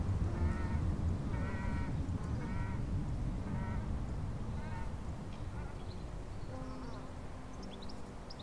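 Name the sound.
ducks quacking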